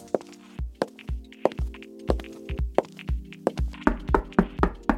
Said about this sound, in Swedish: Så ja, du får väl knacka på nu då.